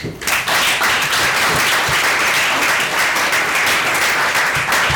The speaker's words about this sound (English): I'd like to give a big shout out to our speakers this evening who have given up their time and are happy to share their expertise. So let's have a big round of applause for